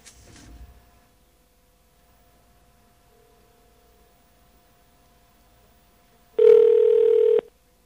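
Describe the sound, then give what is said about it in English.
A single loud ringback tone on a phone call to Sprint PCS, a steady electronic buzz lasting about a second, follows a stretch of near-silence with a faint hum and a brief click at the start. “You got to wait for her to actually answer the phone.”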